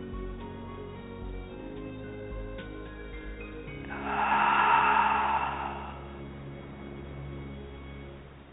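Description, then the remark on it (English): A single slow, deep, airy breath during a breathing exercise (in for a count of five, out for five) swells and fades over about two seconds, fairly soft, against a quiet steady hum with no talking. “And I want you to breathe just a little deeper than normal. In for 5. And out for a count of 5.”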